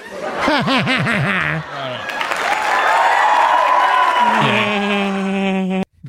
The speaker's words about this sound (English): It says applause with cheering.